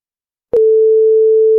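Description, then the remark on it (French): After a moment of silence, a soft click gives way to a single loud, steady electronic beep from a telephone answering machine at the radio station Syllab, held unbroken at one pitch until the end. “On regarde sur tout le de répondeur, suite. On écoute.”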